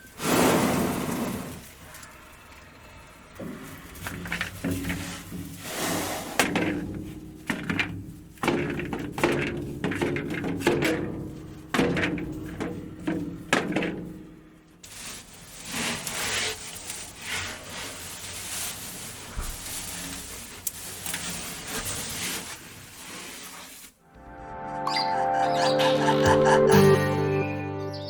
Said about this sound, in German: Wenn der Elefant mit dem Rüssel ins Loch hineinlangt und die Kugel hin und her schüttelt